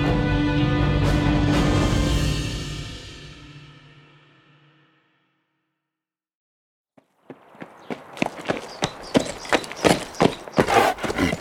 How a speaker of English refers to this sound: Kid Morgan reined his horse to a halt and looked at the bleached white skull on the ground in front of him.